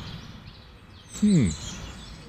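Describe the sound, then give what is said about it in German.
A single short, descending call from a wild bird rings out clearly midway through, set against a steady hiss of outdoor background noise, with faint, higher chirps of many other wild birds. “Also hier, wo ich gerade sitze, sind wieder eine Menge Vögel. Wilde Tiere. Hier hört ihr die wilden Tiere.”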